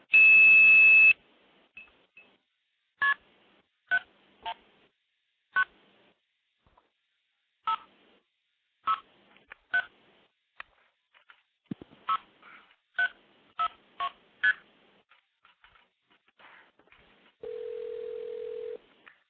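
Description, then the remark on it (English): Phone phreaking tones, used to redirect a call to another number without hanging up as in the 1970s: a brief loud, steady high 2600 tone, then a quick, uneven string of about fifteen short two-pitched beeps dialing a number, ending in a steady lower tone. No voices. “So you can call into the system, make a call, blow it off with 2600, redirect it to another number without actually hanging up and starting over again, which is exactly the way it worked back in the 70s.”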